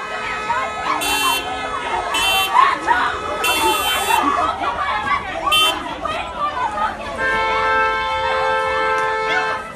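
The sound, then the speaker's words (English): A street brawl among teenagers in Dublin, blocking traffic, from a social media video: a chaotic crowd of overlapping voices shouting and yelling, with sustained car horns blaring throughout and sharp bursts of harsh, high-pitched noise cutting in. “Yeah, that was the sounds of a brawl, teenagers brawling in Dublin, blocking traffic.”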